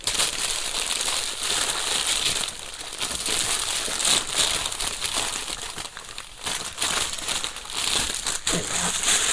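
Tissue paper crinkles and rustles steadily for several seconds as a pink and purple silk Hermes scarf is unwrapped, a continuous papery crackling with small bursts of louder crumpling and no talking.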